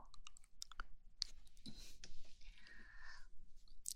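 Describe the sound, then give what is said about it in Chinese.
House keys are handled and handed over: quiet, irregular metallic clicks and brief jingles scattered over a few seconds, with a faint rustle in between and no talking. “等会儿啊，我把我家的钥匙啊给你吧。”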